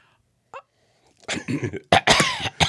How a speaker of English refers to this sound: Is that me coughing or you? That's me coughing now.